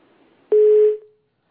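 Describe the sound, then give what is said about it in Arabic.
A single steady electronic phone tone sounds abruptly after faint line noise as a caller's phone call from Italy drops, holding for about half a second before cutting off. No one speaks. “لا تكون زوجتك أقفلت عليك الهاتف.”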